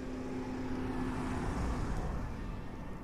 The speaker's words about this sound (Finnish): Moottori kuuluu selvästi. Tämä on sellainen, että kun vaan polkaiset poljinta, niin se moottori lähtee heti päälle. Sitten kun minä lopetan polkemisen, niin se pysähtyy.